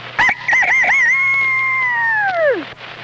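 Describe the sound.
A person's voice mimics a rooster crowing: one loud call with a few quick warbling notes, then a long held tone that slides downward and cuts off.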